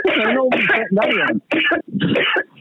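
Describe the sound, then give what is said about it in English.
A loud fit of coughing: about five harsh, raspy bursts in quick succession with brief gaps between them, sounding strained and throaty. “No, I was just coughing.”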